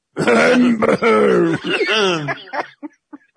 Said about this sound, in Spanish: Cuando en una la situación... protagonista se abre la blusa, usted empieza a toser.